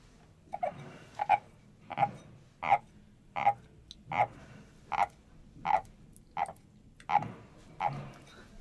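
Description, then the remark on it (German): A souvenir wooden frog instrument croaks about eleven times in a steady, even rhythm, each rasping scrape clear, with no voices in between. “Genau, aber dieser Frosch, der hat auch ganz hervorragend in diesem Umfeld im Film funktioniert. Ansonsten, dieser Frosch hier, das wäre.”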